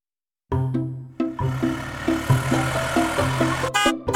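The horn of Noddy's red car honks repeatedly and loudly, mixing long blasts with short toots in an uneven rhythm, with no one talking.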